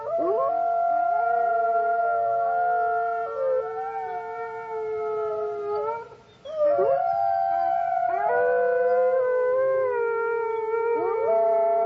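A pack of wolves howls together in long, overlapping, wavering tones that rise and slide, sustained for several seconds with a brief lull before the chorus swells again, loud.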